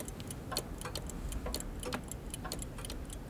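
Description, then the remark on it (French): A pendulum clock that has just been repaired ticks steadily and evenly, a string of crisp, sharp clicks at a regular pace over a faint, low background hum, fairly quiet with no voices. “Mon ami, peux-tu un instant écouter cette pendule que je viens de réparer ?”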